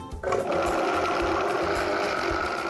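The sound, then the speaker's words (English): A blender motor kicks on after a brief moment and runs at a steady, loud whir, pureeing strawberries into a simple puree for a layer of a three-layered smoothie, with a constant high-pitched hum and grinding texture, no voices. “You're just gonna add the strawberries right to your blender.”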